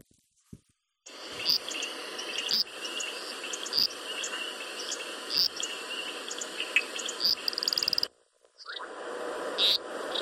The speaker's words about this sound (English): You know, what can you say but thank the brilliance that's in the night, our most humble symphony, the frogs, I mean, humans, our mere reproductions.